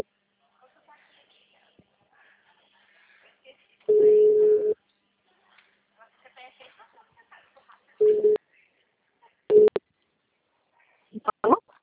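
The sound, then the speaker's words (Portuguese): A telephone line plays a steady, mid-pitched ringing tone in several loud bursts of varying length as a number is being dialed, with faint murmuring and small clicks in the quiet gaps between them. “Tá digitando já.”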